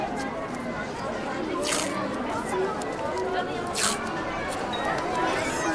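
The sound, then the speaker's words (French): Two short, raspy rips of adhesive tape being pulled from a roll, a couple of seconds apart, over a steady murmur of background chatter at an arts festival. “Un peu de scotch, d'accord.”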